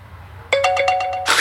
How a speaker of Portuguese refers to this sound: Esse barulho. Eu acho que alguma notificação pendente, mas eu ainda não descobri. Aonde que.